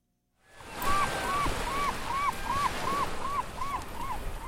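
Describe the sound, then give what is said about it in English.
Steady rushing wash of tidal water at the mouth of the Kenai River in Alaska on the last day of dip netting season, where dozens of people stand waist-deep in the tide with large nets and salmon jump around them, with a string of about ten short, evenly spaced bird calls ringing out above it. No one speaks. “And dozens of Alaskans are standing waist-deep in the tide with large nets in their hands.”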